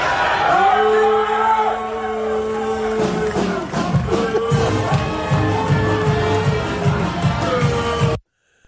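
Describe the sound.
A crowd boos loudly and steadily, long sustained low voices overlapping in a dense roar, with shouts rising above it before it cuts off abruptly at the end.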